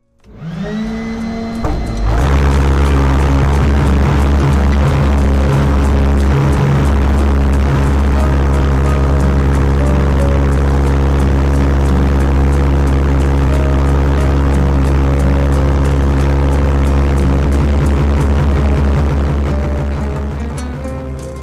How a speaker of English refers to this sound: I can turn it in the direction I want by throttling them with the ball valve, but I'm not getting the boat up on plane, and I'm just pushing the nose down into the water.